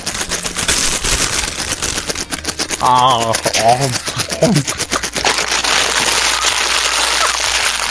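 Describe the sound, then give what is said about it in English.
The wrapper of white chocolate and normal chocolate peppermint bark candy crinkles and rustles in a dense, crackly stream of sharp snaps that runs the whole time, with a brief burst of voices breaking in around the middle. “Hang on, I got something I can rustle, too.”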